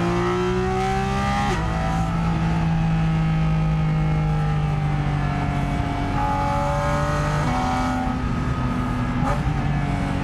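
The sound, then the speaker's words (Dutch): A naturally aspirated car engine revs loudly and steadily, its pitch climbing and dropping through several gear-like steps, with a low rumbling drone throughout and no one speaking. “Het heerlijke is, atmosferische blok, het is natuurlijk enorm zeg maar, te doseren.”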